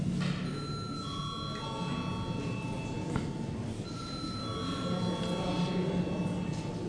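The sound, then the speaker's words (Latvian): The session bell of the Latvian Saeima (parliament) rings steadily for several seconds before a vote, its bright tones ringing out over a low murmur of room noise and faint voices. “Lūdzu zvanu.”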